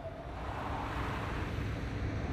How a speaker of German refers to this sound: Ein Auto kam angefahren.